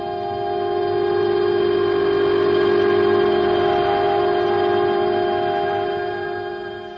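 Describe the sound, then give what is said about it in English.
A northbound subway train roars into the King Street subway station, its horn blaring in a long, steady, loud blast over the rumble of the approaching cars, swelling in and then fading slightly as it passes. “She paid her fare, walked through the turnstile, down the stairs, and before 30 witnesses, stepped in front of the northbound train.”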